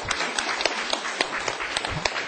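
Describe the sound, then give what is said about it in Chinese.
A lecture audience breaks into steady applause at the lecturer's request to encourage an audience member, many hands clapping together in a dense, crackling wash with individual claps popping out irregularly, filling the room at moderate volume with no voices. “来给这位朋友掌声鼓励。”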